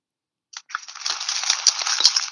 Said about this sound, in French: Ouh, c'est très ASMR. Oh waouh, oh waouh, c'est intense comme bruit. Quoi? C'est un paquet de chips? Pas de chips. De céréales. De céréales. Non. De pâtes. Putain. Oui, mais quel chip? Des coquillettes.